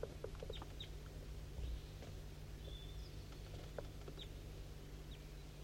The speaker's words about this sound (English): I'm pointing towards a wild bird. It's down the hollow. Straight west.